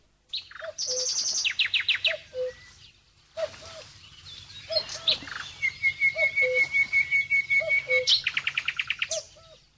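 Several small birds chirp and sing at dawn in busy overlapping bursts, with rapid high trills, short sweeping notes and a sustained whistled tone, over a soft low background hum. No one speaks.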